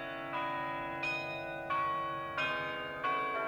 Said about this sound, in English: The very same kind of mechanism that makes a little mechanical clock play a tune also drives the great carillon of the 14th century cathedral tower, which can be heard throughout the city of Utrecht.